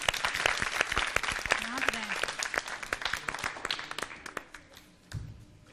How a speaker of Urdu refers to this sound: ایک مرتبہ ان کی حوصلہ افزائی کے لیے زوردار تالی. جی ٹیم بی استقبال کے لیے زوردار تالیاں.